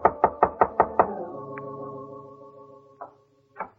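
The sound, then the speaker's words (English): Five quick, evenly spaced knocks on the door of a bungalow in a bungalow court on Normandy, loud, leaving a hollow ringing tail, followed by a couple of softer, isolated thumps. “It was a bungalow court on Normandy, and it took her a long time to answer the door.”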